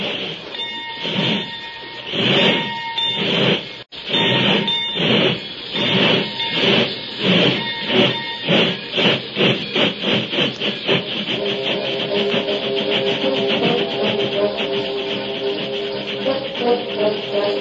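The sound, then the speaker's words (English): A steam locomotive pulls away, its loud hissing chuffs starting slow and evenly spaced, then quickening into a rapid, steady rhythm as the engine gathers speed. No voices are heard. “And if the train should happen to pass us on this level stretch, we'll pass it again as soon as the engine hits the grade.”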